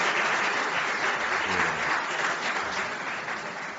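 A crowd applauds steadily, a dense wash of clapping hands that holds at a fairly even loudness throughout before easing slightly at the end. The applause honors an inclusive actress receiving recognition at a ceremony.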